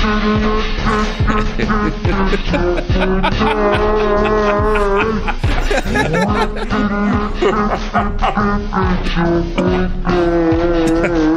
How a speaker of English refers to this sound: Do you think that if she is hesitant, we could convince her, maybe lure her into this world of podcasting with my chopped and screwed version of that song?